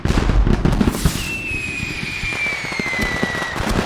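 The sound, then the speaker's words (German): A dense barrage from a large public fireworks display: rapid crackling bursts and pops overlapping continuously, with a high whistling rocket streaking across as it fades in pitch. “Ein großes Feuerwerk für alle.”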